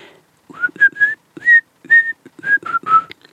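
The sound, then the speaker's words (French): A person whistles a bird song: a string of about eight short, loud whistled notes, several sliding upward, with brief breathy gaps between them and no talking. “Et l'oiseau, chante à nouveau cette chanson.”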